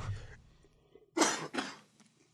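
A person coughs twice in quick succession, fairly loud, the two harsh bursts following a brief low rumble, with quiet afterward.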